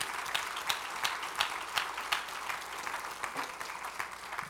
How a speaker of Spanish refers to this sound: ¿Cuántos dicen amén? ¿Le pueden dar un aplauso al Señor, hermano, por favor?